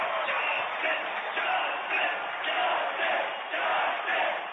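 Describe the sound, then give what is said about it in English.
A large baseball stadium crowd at a Dodgers game yells "Justin" together for Justin Turner after his three-run home run, a loud, dense roar that swells and dips in steady repeated surges, continuous with no single voice standing out. “The crowd is yelling Justin.”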